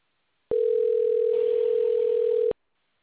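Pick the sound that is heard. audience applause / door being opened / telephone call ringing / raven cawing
telephone call ringing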